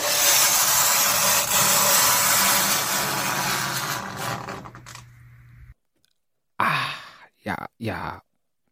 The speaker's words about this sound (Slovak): A v tom príde do triedy pani učiteľka matematiky. Začne písať bez slova kriedou na tabulu, rôzne príklady, a zrazu svojím dlhým, červeným nechtom prejde po tabuli.